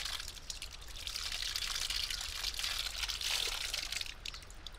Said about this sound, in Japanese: 暖かいですか？冬の間は川の方から温泉水を引っ張ってきているんです。